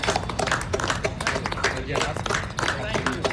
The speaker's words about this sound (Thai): เสียงปรบมือจากหญิงชายเชื้อสายไทยผู้สวมใส่เครื่องแบบทหารของกองทัพสหรัฐเป็นอีกเสียงหนึ่งนะคะที่เข้าร่วมการแสดงออกเชิงสัญลักษณ์ที่แพร่หลายไปทั่วโลกเพื่อร่วมให้กำลังใจแพทย์พยาบาลและเจ้าหน้าที่สาธารณสุขในประเทศไทย